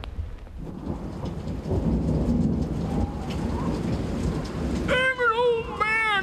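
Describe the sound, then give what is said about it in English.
Steady rain pours down in a dense, hissing wash with a low rumble beneath, and near the end a few bright, wavering bird calls cut through the downpour. “And lots of Christmases come and go, and they're never white, and it's raining again and again and again and again and again.”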